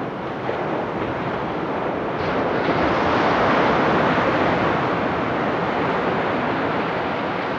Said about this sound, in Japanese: 県境に近い山本町の中浜です。二重に護岸工事が施された波消しブロックの向こうに真っ青な海が広がり、波の音が聞こえてきます。